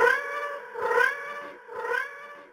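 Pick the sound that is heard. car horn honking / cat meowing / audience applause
cat meowing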